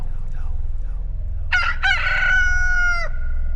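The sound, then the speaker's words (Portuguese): A rooster crows once, a loud cock-a-doodle-doo with a rising start and a long drawn-out final note, over a low steady rumble of background noise. “E no mesmo instante o galo cantou.”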